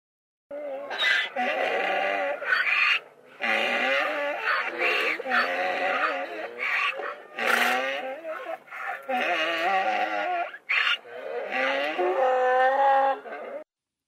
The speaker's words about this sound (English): Did you guess that animal? I don't see this animal very often. That was a donkey.